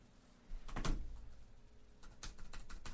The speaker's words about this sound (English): Oh, I have to type.